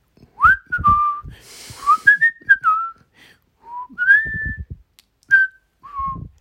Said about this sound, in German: Die Leute, die pfeifen, also die draußen sind, egal ob im Bus oder halt vor einem gehen auf der Straße und dann wirklich.